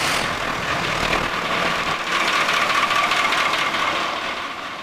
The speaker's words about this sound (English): I'm gonna start this engine up.